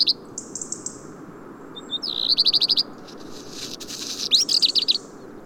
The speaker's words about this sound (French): Un peu plus loin, les gazouillements sonores et métalliques d'un rouge-gorge et de trois pinsons communs sont entremêlés, formant un tapage peu fréquent.